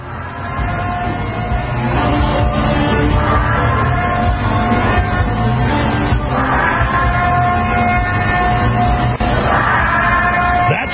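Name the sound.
air raid siren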